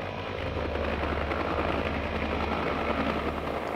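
A loud, continuous roar of a helicopter rising in a gale, with a deep rumbling low end and a steady mechanical drone that never lets up across the few seconds, no voices present.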